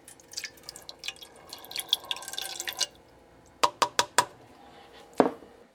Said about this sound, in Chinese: 好，那接着我们就准备一杯水，大概就是100克，会把它加在电锅的外锅。